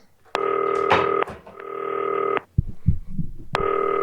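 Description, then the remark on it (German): A phone call to Norman Teuerkauf of 1. FC Heidenheim rings out with long, steady, buzzing tones repeating in a regular pattern, separated by short pauses, with a few soft low thumps in one gap. “So, klingelt.”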